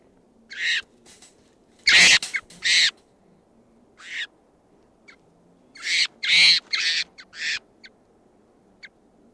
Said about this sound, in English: Morning of October 14th, and there's a wild bird coming in. Stop. Two birds, and they're circling and going down to the tree above the net.